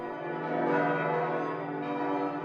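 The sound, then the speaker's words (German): Church bells ring out in a steady, continuous peal, their overlapping tones blending into a full, sustained wash of sound with no voices present. “Glocken, die nach Rom fliegen und dann Ostereier verlieren.”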